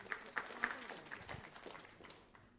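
Soft audience applause: a few distinct claps at the start build into a steady patter of many hands, tapering off slightly toward the end, with faint murmuring underneath.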